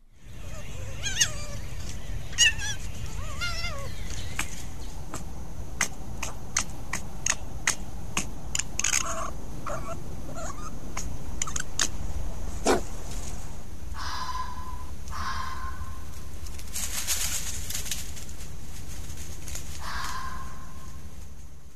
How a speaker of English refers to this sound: Now, there's footage from a camera trap in Raleigh and the sounds of fox pups and the parents trying to lure a coyote away.